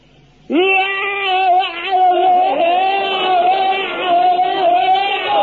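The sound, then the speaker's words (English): A single loud, sustained battle scream from one man's voice during bayonet drill, starting abruptly and held for about five seconds at a strained, wavering high pitch without a break. “Now, the scream is the thing that really puts the wind up the enemy. Now, you fill your lungs up with the air and let it out like this.”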